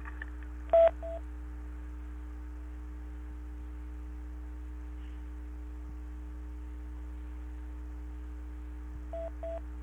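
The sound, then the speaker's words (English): A telephone gives short electronic ringing tones, one brief burst near the start and another near the end, over a steady low electrical hum with no one speaking. “There is a phone obviously going on.”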